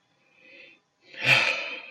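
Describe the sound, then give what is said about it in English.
Labored, heavy breathing from a person getting emotional: a soft, airy inhale followed by a louder, rougher exhale that rushes into the microphone with a slight thump, with no talking. “My breathing gets labored sometimes when I get emotional. And I know you can hear it in the mic.”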